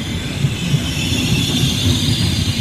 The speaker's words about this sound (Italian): Quando il treno frena la sua corsa al binario è quasi mezzogiorno.